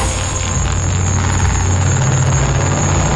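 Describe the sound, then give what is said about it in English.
A lawnmower engine passing by a window drones loudly and steadily, its low, rumbling hum holding an even level for a few seconds with no voices. “The lawnmower flies past my window.”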